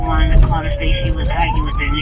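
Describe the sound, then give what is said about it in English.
A police squad car siren wails continuously, its pitch sliding slowly down and then climbing back up, loud over a steady low rumble of road and engine noise, heard from inside the squad car as it speeds toward a call about a neighbor firing a gun. “I'm in a squad car”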